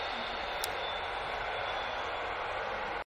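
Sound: passing train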